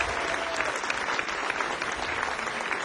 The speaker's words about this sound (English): Welcome to Yoshi's in Oakland. We're glad you could join us this evening. Will you please give a warm round of applause and help bring to the stage